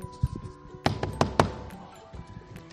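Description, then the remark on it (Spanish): Three sharp knocks on the door of a school classroom of 4- to 5-year-olds, in quick succession, preceded by a few softer low thumps, with a faint steady hum in the background and no talking. “Bueno, voy a llamar, un momentito.”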